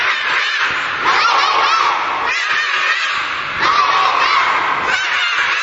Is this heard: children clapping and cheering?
yes